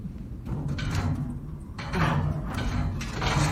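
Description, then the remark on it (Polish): Someone tries to open a locked door, a steady rattle and clatter of the handle and frame as it is tugged repeatedly without giving way. “Cholera. Zamknięte.”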